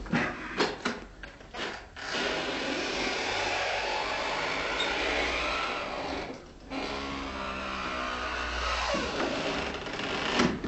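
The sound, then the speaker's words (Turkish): An old padlocked door, pried loose with a screwdriver, creaks open slowly with a long, grinding, strained groan that wavers in pitch, loud, with a few sharp knocks at the start and no voices. “Amma gıcırdadı. Yandaki konaktan bile duymuşlardır.”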